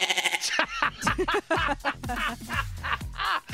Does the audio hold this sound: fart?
no